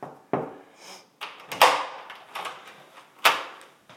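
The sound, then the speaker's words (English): An inner apartment door, leading to a vestibule shared with a neighbor, shuts with a firm clunk, followed by a few sharp latch and lock clicks at uneven intervals as it is locked, with no talking. “I'm just going to lock this inner one first, even though I don't think I'll be gone long.”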